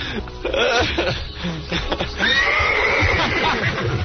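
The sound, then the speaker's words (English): A horse neighs loudly, with breathy snorting sounds leading into a long, wavering, high-pitched whinny that trails off near the end. “Is that her or the horse?”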